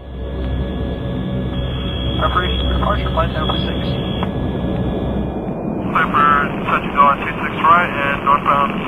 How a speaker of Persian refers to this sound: هواپیمای ناشناس اجازه فرود در فرودگاه قلعه مرغی را می‌گیرد. هواپیما اروپایی است و خدمه ایرلندی دارد. بعد از اجازه برج مراقبت چند دور می‌چرخد و در باند فرودگاه می‌نشیند.